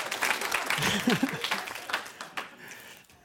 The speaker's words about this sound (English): Sure, round of applause for the good folks at Concordia.